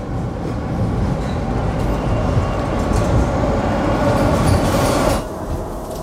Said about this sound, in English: You wait until his subway car zooms away.